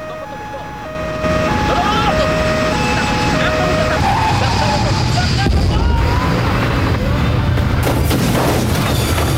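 A two-tone siren wails briefly, then a loud, sustained roar and grinding scrape take over as a security force van, blown over by the jet blast of a plane's engines, tumbles and skids across the tarmac, harsh throughout.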